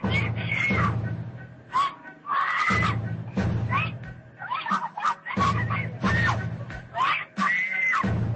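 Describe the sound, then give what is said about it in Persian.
A woman screams loudly and repeatedly in shrill, wavering bursts while struggling and kicking as police officers take her toward their car, over a steady low rumble of background noise. “ویدیو سپس با تصاویر زنی ادامه می‌یابد که در حالی که ماموران انتظامی وی را به سوی ماشین خود می‌برند فریاد می‌کشد و دست و پا می‌زند.”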